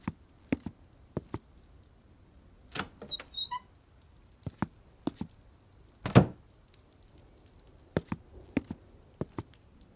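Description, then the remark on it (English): Sharp, irregular footsteps tap across a hard floor in a manor, broken midway by a heavier thud of a door swinging shut behind the walkers, then a few more steps follow. No one speaks. “They closed the door behind them.”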